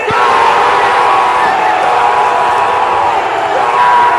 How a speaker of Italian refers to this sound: Vedo solo gente che urla e urlo anch'io con loro, dalla gioia.